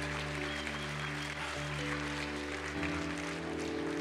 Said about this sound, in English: Please don't patty cake with me this morning. Give him the largest hand of applause you've given him this morning.